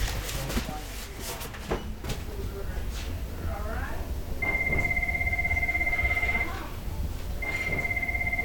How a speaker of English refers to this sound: So the phone has been crazy. It is our busy season. Most customers are calling to find out when their shipping is, when their packages are being shipped.